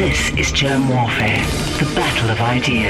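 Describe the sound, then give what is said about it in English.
A single voice speaks one steady, loud announcer-style line, drenched in reverb that leaves a lingering echo trailing behind each word. “You sound epic with that reverb that's on your voice.”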